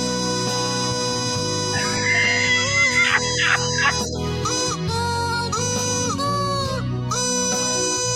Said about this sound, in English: Here they come. Here come the ducks.